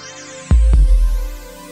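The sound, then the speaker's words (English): A single loud, deep heartbeat: two low thumps in a lub-dub pattern, booming, then fading into a soft background hum. No one speaks. “Try to feel the power. The power of your heartbeat.”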